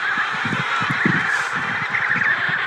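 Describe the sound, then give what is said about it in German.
Many penguins screech and honk at once in a dense colony, a continuous loud chorus of overlapping harsh calls with no voices. “Niemand sagt ein Wort. Nur die Pinguine kreischen.”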